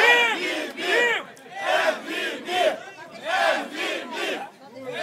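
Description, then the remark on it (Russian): A rap battle crowd shouts and yells after a round in loud, rhythmic bursts, many voices rising and falling together in repeated waves, like chanting or cheering in unison. “Ну все, покричали, покричали, красавцы.”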